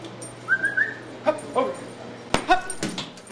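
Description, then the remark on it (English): A dog named Jesse, at a fruit packing house in Redlands where donated fruit is picked up, whines in a high, rising whimper, then gives several short, sharp barks and yips over a low steady hum in the background. “his dog Jesse came by the packing house to pick up fruit.”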